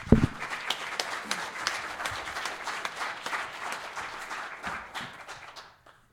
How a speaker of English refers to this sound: Fantastic. I think we have a round of applause for those people, please.